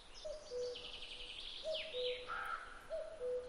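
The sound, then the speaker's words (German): A male cuckoo gives its courtship call to attract females, a two-note descending cu-coo, three times at a steady pace, while other small birds chirp and twitter in the background outdoors. “Der Balzruf der Männchen wirkt dabei wie ein Leuchtfeuer, das die Weibchen von einem Revier zum nächsten führt.”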